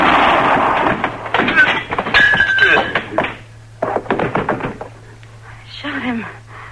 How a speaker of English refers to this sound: I shot him. Kitty, you all right? I'm all right. I shot a man. He's dead, Mr. Dillon.